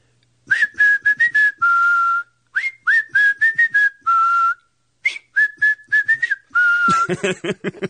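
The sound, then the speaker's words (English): A person whistles a short tune from a hit song, clear sustained notes in three phrases with brief gaps, ending as talking voices begin to come in. “We're whistling the hits.”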